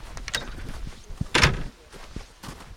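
A heavy reindeer skin door at the clear ice-block front entrance of an ice hotel is pulled open by its reindeer antler handles, with one rushing thump midway, surrounded by quieter scuffs, creaks and soft knocks of handling, with no one speaking.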